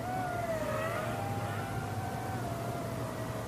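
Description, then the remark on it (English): A small quadcopter drone, the Black Talon from Eric's Drones, is flown over a person's head and hovers with a steady, buzzing whine whose pitch wavers slightly, layered over a low rumble and continuing unbroken throughout, with no one speaking. “Did you fly it right over my head? Yep.”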